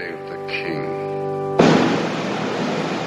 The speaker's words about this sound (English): Outside, soldiers fire cannons.